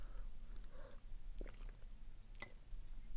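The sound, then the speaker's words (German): Quiet sips of water, three soft slurping gulps with faint swallowing, followed by a sharp little click like a glass being set down; no one speaks. “Ich nehme mal kurz einen Schluck Wasser, Moment.”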